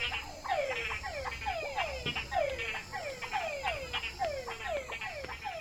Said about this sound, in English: I'm in Santa Catalina, Panama, walking home from dinner. It's actually very late here because it's before 9. But I'm walking by a stream, and these, I'm guessing, are frogs. Listen to these frogs.